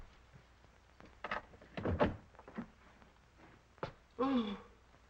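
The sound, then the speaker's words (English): A key rattles and clicks in the lock of a locked library door, followed by the door thudding open, with a few scattered knocks; a voice briefly exclaims near the end. “The door's locked, sir. Well, you've got a key? Yes, sir. Well, use it.”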